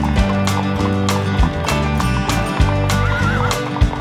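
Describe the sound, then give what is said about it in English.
A horse whinnies over a steady run of galloping hoof beats, loud, with bright music playing underneath throughout; Farmer Joe's 18 horses gallop around outside on a farm. “Farmer Joe has 18 horses. They gallop around outside.”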